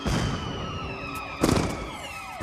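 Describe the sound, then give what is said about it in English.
Sirens of approaching fire engines wail with steady rising and falling tones, fairly loud and continuous, joined by two brief sharp bursts of noise partway through. No one speaks. “Fire engines approach.”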